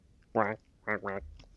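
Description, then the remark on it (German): A duck quacks three times: one nasal quack, a short pause, then a quick pair, loud with nothing else around it. “Ersetzt er mich einfach mit einer Ente.”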